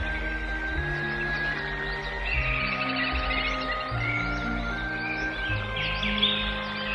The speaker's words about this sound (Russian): Они стояли рядом с хижинкой, окруженной со всех сторон густыми лесными зарослями. И сотни птичьих голосов звенели и переливались над их головами.